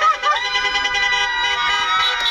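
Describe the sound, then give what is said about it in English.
A car parade organized by Project Cheer Up, a group of New Jersey cheerleaders, goes by with sirens wailing and horns blaring together in a loud, steady, overlapping clamor of high, wavering tones. No one speaks. “That's a car parade organized by Project Cheer Up, a group of New Jersey cheerleaders who, when school and extracurricular activities were canceled, decided to find ways to safely boost the energy wherever they could”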